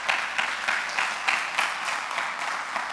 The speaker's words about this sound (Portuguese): Em nome de Jesus, e só quem crê, diga amém, dá um aplauso bem bonito.